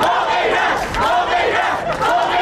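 A crowd of Iranian protesters in Rome, Italy, chants slogans in Italian in unison, loud and continuous, with rhythmic surges of many overlapping voices shouting together.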